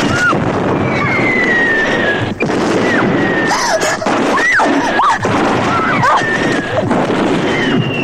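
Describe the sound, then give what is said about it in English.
Heavy artillery creeping barrage on Iscaro, getting closer: a dense, continuous roar of booms and blasts, with sharp bursts landing every second or so and high whining tones sweeping through the din. “It's gunfire. Heavy artillery. Doctor, it's getting closer. It's a creeping barrage.”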